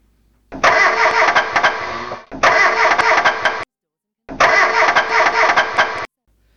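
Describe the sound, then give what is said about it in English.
A car engine cranks three times in long, loud bursts, each whirring turnover stopping short with a brief silence between, and the motor never catches. “It's a non-runner.”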